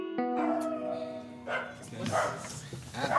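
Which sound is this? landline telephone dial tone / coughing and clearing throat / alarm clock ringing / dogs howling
dogs howling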